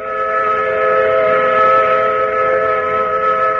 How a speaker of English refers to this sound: The sound to which you are listening is the sound of a mill whistle in Carrollton, a cotton mill.